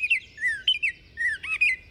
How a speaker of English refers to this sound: And the short and sweet oriole.